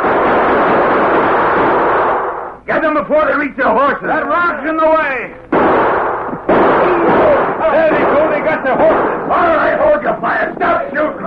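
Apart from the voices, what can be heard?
gunfire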